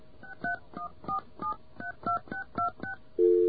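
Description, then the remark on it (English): A rapid string of about eleven touch-tone keypad beeps as a long-distance code is entered on a phone, in quick, even succession, followed by a steady tone on the line. The tones are clear, with no talking. “I'll enter a long-distance code and see if that makes it happy.”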